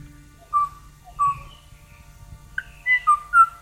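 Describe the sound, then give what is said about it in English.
A lone Kauaʻi ʻōʻō, a now-extinct bird, makes a mating call in the last recording of the species, from the 1980s: clear, flute-like whistled notes, spaced out and then quickening into a cluster of rising tones, against a quiet low hum. “And it's even sadder when you know that the last recording of it in the 80s was of a lone individual, just a single bird, you know, making a mating call to a mate that was no longer there.”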